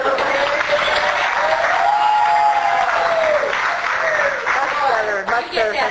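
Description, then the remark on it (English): Steady, dense applause from a large audience fills the room for several seconds, with a few voices whooping and cheering over the clapping before it starts to thin out. “Otherwise my back gets all your applause and it's just isn't the same.”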